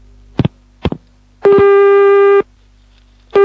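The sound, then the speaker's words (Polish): As a phone call is transferred to a warehouse, two short clicks are followed by a steady, buzzy telephone tone held for about a second, then it starts again at the end. It is a loud, flat electronic line tone with no voices. “Ja pana połączę z magazynem, z Piotrkiem tym.”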